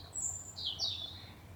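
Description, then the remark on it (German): Faint evening birdsong outdoors: a few high, thin chirps and whistles over a steady low background rumble, with no one speaking. “Ich hoffe, dass ihr die Abendvögel und die Abendstimmung auch noch ein bisschen auf der Aufnahme hören könnt.”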